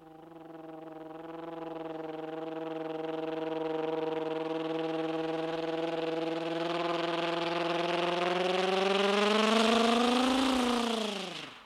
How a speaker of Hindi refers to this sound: अब आपको ले चलेंगे दूल्हा दुल्हन के रिसेप्शन में, जहां शादी की खुशियां मनाने के लिए फिल्मी स्टाइल डाकू हेलीकॉप्टर से नीचे उतर रहे हैं दूल्हा दुल्हन को आशीर्वाद देने के लिए।